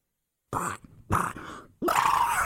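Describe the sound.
A voice imitates Donald Duck's sneeze: three quick, raspy, throaty bursts, growing louder and ending in a harsh, sustained blast, with no talking.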